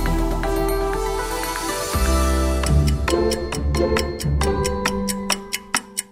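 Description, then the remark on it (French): Clock ticking over a musical bed: sustained tones give way to a steady run of sharp ticks about three per second, ending with a few louder, more spaced clicks. “L'horloge tourne, moins de 15 jours encore avant le Bundestagswahl, les élections allemandes du 26 septembre.”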